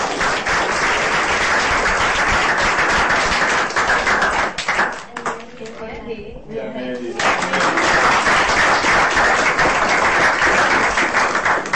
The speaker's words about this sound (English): Let's thank our panelists, our very awesome panelists, and you all for coming. Thank you so much for taking part of your afternoon to do this. Let's give a round of applause.